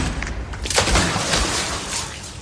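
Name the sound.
gunshot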